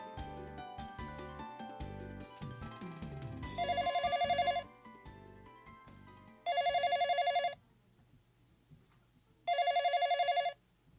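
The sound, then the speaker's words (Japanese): A telephone rings at home with an incoming call, in three loud, trilling bursts separated by pauses, coming in after a stretch of soft background music that fades beneath the rings. “おや、電話がかかってきましたよ。”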